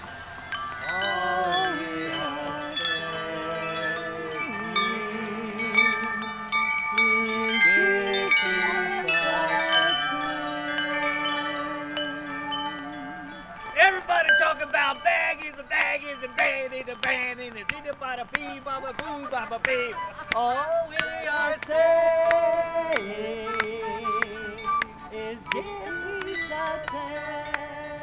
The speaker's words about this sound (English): But once fortified, the troupe gathered around the chime arbor for one more performance.